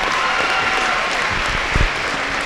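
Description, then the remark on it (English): Steady audience applause for Fort Recovery senior athletes, a dense wash of many hands clapping at once, loud and sustained throughout with a few thumps and cheers rising near the end. “Ladies and gentlemen, a big round of applause for all our Indian seniors.”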